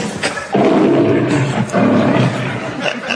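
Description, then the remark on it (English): A lion roar sound effect in a comedy scene: a lion roars twice in quick succession, loud, each deep, rumbling growl lasting about a second with a brief pause between them. “What are you doing to my lion?”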